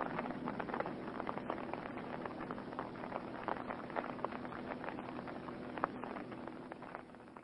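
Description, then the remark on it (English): Steady rain pours down at night in a dense, even hiss, scattered with brighter pattering drops throughout. There are no voices, just a constant wash of rainfall at moderate loudness. “Now it'll rain the rest of the night.”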